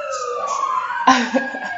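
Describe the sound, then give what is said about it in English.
A real-life emergency siren, not from the TV, wails from outside, its tone sliding steadily downward at moderate volume, with a brief burst of voices and noise breaking in partway through. “Sirens are real-life sirens.”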